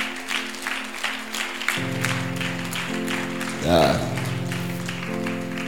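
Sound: audience clapping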